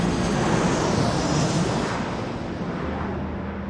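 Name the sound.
airplane engine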